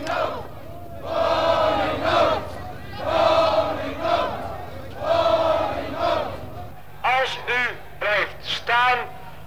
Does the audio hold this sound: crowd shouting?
yes